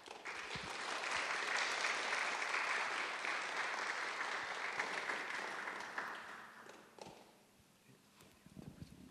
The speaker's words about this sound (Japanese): では歓迎の拍手を持ってお迎えしたいと思います。